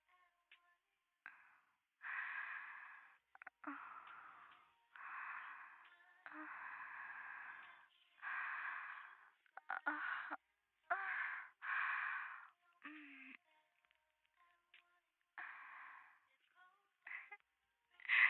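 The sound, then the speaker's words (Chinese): Soft, close-miked breathing repeats about a dozen times in a steady in-and-out rhythm, each breath a hushed, airy rush near the microphone, with no talking. “老师的呼吸声就在你的耳边，一会儿是温柔的情话，一会儿是严厉的命令，就这样的撩拨着你的欲望。”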